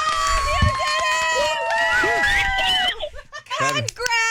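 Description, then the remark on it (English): A young girl, the speaker's daughter, lets out loud, shrill screeches, high-pitched and sweeping up and down, with brief breaks and other voices and laughter mixed in around her. “Loud screeches from my daughter.”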